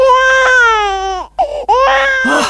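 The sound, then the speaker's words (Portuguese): An infant wails loudly after waking, a long sustained cry that breaks off, followed by a couple of short choked sobs and then another drawn-out cry. “Ah, acordou! Uf, graças a Deus!”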